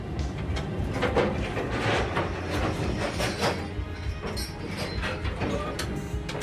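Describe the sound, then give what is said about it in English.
A fishing boat's winch hauls up the trawl doors, which keep the net open, with a steady mechanical roar, low rumbling and rattling metallic clanks throughout, no voices. “I just have to keep an eye on the trawl doors coming up there.”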